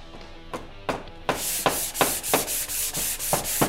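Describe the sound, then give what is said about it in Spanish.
Hand sanding on a wooden storeroom door: a few light scrapes, then steady, rhythmic back-and-forth strokes with a gritty hiss, pulsing roughly three times a second. No voices. “Ahora falta lijar la puerta de la bodega para que no rechine.”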